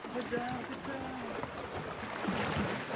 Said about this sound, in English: We splash our way onto the island.